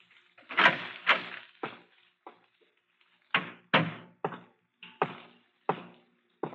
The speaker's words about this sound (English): How did you get in? I just opened the door.